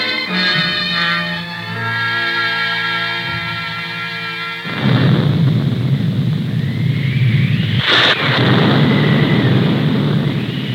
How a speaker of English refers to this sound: Ah, thunder. So Dennis was right. We are going to get a storm.